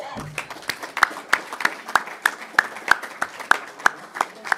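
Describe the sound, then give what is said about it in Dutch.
Steady, evenly paced clapping, about three sharp claps a second, sounding like an audience applauding in rhythm, with a faint murmur underneath; applause for the families at home of council members. “Laten we dat ook nog maar eens, en misschien moeten we daar ook eens even applaus voor geven.”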